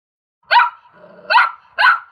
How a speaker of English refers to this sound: It's a puppy.